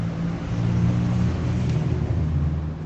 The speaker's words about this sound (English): Yazd today is a bustling modern city, full of motorcycles and high-rise buildings.